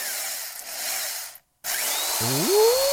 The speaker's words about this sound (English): It's a hairdryer.